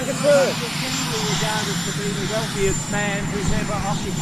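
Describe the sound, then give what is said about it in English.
Steady, loud rotor roar of the Marine One helicopter fills the whole stretch, a dense churning rumble with indistinct voices shouting faintly underneath. “And he can always use the plausible deniability of the Marine One, the sound of the chopper.”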